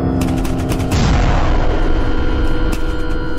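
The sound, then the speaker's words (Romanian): Heavy cannon artillery fire from the listeners' own side, heard in Transylvania (Ardeal), fills the scene: booming blasts in a dense, continuous barrage with sharp reports over a deep rumbling roar, loud and sustained without any voices. “Parcă ar fi primul bubuit de tun acum 2 ani. E de-al nostru.”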